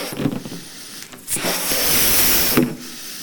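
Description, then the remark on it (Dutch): A balloon is blown up by mouth: breathy, airy puffs build into a long, steady rush of air lasting over a second, moderately loud, with no talking. “Er zit adem in deze ballon.”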